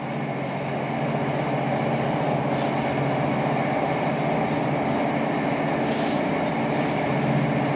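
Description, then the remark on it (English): Steady rumble and rattle inside a moving train carriage, continuous and fairly loud, with rhythmic clatter and a brief high squeal near the end; no one speaks. “Gosh, nobody be on this train if they feel sick, because it probably, yeah, add to it.”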